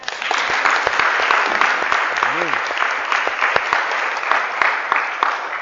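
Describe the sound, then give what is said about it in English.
An audience claps steadily for several seconds, many hands blending into a dense, continuous wash of applause, with a brief rising-and-falling vocal whoop partway through. “but why do we clap? Are we applauding the artist?”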